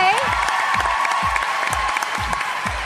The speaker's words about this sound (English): So everyone, clap your hands for our friend here.